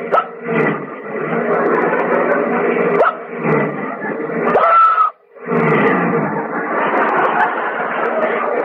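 A car engine lurches and revs loudly, surging in uneven bursts as the hiccupping driver's foot goes down on the gas with each hiccup, briefly dropping out before roaring back up, with hiccups mixed in.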